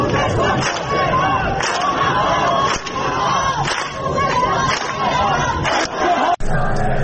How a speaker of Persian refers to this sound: شعارها هم چیزی نبود جز از خوزستان تا تهران اتحاد اتحاد و کشور آب ندارد فشار ادامه دارد.